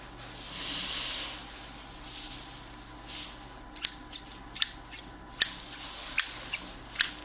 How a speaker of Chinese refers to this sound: 这把新买的剪刀，尼泊尔的，还没用过，不知道用起来感觉怎么样。